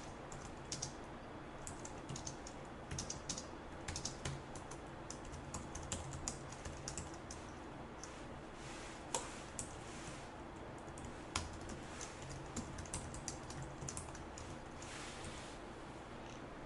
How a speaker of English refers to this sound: Okay, so let me go ahead and start typing in the example here.